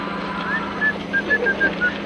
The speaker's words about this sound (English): So unless you want to stay here and get messed up nice and proper by your new mates, you better start whistling something bloody cheerful. Nice and loud now. Come on.